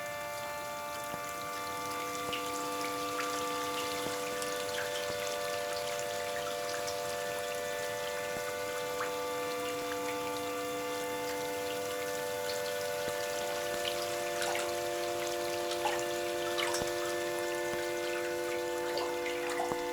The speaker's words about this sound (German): Der Wassertropf, tropf, tropf, tropf, tropf, tropf, tropf, tropf, tropf, tropf.